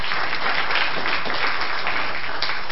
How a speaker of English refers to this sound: Please also give your formal applause